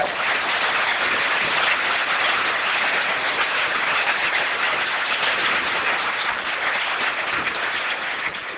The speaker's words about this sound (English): Once again, a big applause for these two guys.